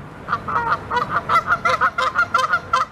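A goose honks loudly and repeatedly in rapid, harsh bursts, a continuous agitated series of angry nasal calls, with no talking.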